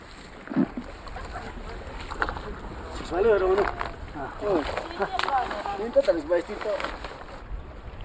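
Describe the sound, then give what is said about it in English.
Uros people's small reed boats move across a lake in the morning, gathering in circles to cast fishing nets, with soft sloshing and occasional splashes from paddling, while indistinct voices carry in the background and a steady outdoor hiss fills the scene. “Despite this, every morning the Uros go out on the lake in their reed boats, gather in circles, and cast their nets, most often just barely managing to provide the basic necessities for their families.”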